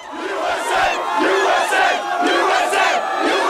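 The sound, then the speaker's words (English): A large crowd in the streets of the U.S. celebrating Osama bin Laden's death cheers and shouts together in a loud, continuous roar, with overlapping voices rising in waves of excited yelling and chanting. “Back in the U.S., people poured out in the streets to celebrate bin Laden's death.”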